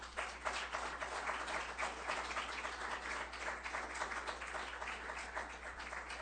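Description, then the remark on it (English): A crowd in Stanton, California breaks into a round of applause for the city being the most fiscally sound in LA and Orange County, dense overlapping claps holding steady for about six seconds with no voices over them. “That deserves a round of applause for everyone here.”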